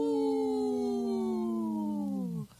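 A single long wolf howl, loud, holding a steady tone that slowly slides lower over a couple of seconds before dropping away abruptly, with no talking.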